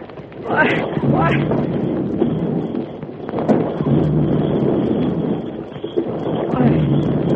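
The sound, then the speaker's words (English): Horses being whipped on gallop in a steady, dense rush of hoofbeats as a snow slide comes down the mountain, blended with loud wind-like noise and a few rising vocal cries over the top. “Whip up the horses and we're gone, Blue!”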